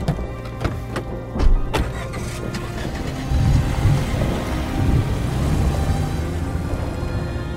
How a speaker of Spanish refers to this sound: Se desató la tormenta. Los relámpagos iluminaron toda el área. Por momentos, con los estallidos de los truenos, parecía que el cielo se incendiaba en llamas.